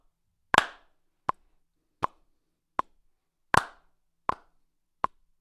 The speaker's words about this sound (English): Now, the reason why I want us to get into the habit of that is that we need to understand that just clapping along is one thing, but adding emphasis onto certain notes essentially drives another rhythmical character.